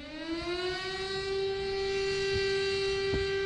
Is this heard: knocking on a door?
no